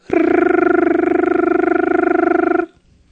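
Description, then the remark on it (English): A single voice chants the letter R, holding a steady, buzzing rolled R for about two and a half seconds, a rapid fluttering trill that imitates a high-pitched engine, then cuts off into quiet. “So when we chant this letter R, we need to make sure that it sounds like a high-pitched engine.”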